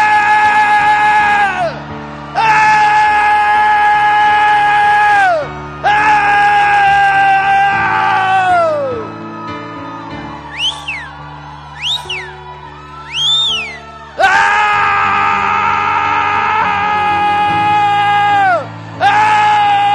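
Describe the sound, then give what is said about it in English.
Several people scream and shout together on a count of three, in long, loud sustained bursts, broken by short pauses and a few rising whoops before the group yells again. “Let's just scream and say, I'm coming.”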